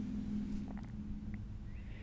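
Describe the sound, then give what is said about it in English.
A motorcycle engine rumbles outside, a steady low growl with a droning hum that is strongest at the start and eases slightly as it continues, with no voices. “That's motorcycle. 100% motorcycle.”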